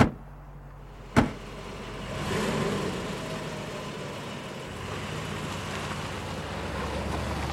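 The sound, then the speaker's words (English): A car door thuds shut, then an engine starts up and revs, the car pulling away with a steady, rumbling drone that carries on to the end. “Just get in the car.”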